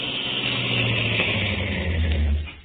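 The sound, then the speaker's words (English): A car engine rumbles steadily with a low hum and slight echo inside a tunnel, then eases off and fades as the car pulls up and stops at the center of the tunnel. “This is the center here. I'll pull up here.”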